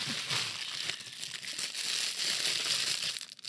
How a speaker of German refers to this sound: Warte, ich packe es jetzt feierlich. Ich mache Unboxing. Hört ihr das? Ich mache Unboxing.